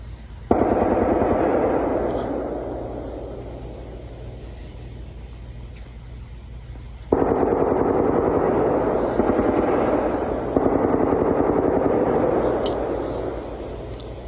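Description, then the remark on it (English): Long, sustained bursts of rapid machine gun fire from nearby National Guard war games in the woods rattle continuously, with sharp restarts around a third and two thirds of the way through, loud and steady, with no voices. “I'm just waiting for the machine gun fire to start.”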